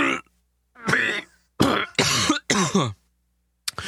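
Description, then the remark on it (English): Loud coughing comes in a run of about five harsh, raspy bursts with short gaps as someone sputters and chokes on food, with no talking. “choking to death and me just laughing and laughing. I'm trying not to cough.”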